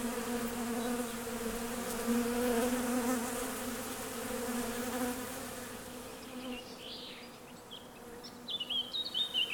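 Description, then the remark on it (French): Honeybees buzzing steadily as they crawl over a person's skin licking honey, a dense droning hum with shifting pitch that fills the whole clip, while faint bird chirps appear in the background toward the end. “Je les remercie, les abeilles, parce que le venin est aussi un bienfait.”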